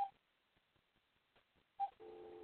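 telephone being dialed

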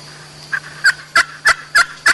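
wild turkey hen calling

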